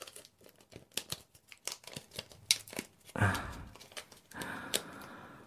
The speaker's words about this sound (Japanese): それじゃ拘束してるテープ剥がすよ。